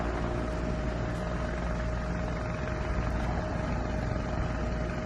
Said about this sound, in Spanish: Los incendios y luego el sonido, ¿verdad?, de los efectivos aéreos, helicópteros como estos, por ejemplo, que estamos escuchando. Estos son los helicópteros que apagaban el fuego que afectaba en el noreste de La Palma hace unos días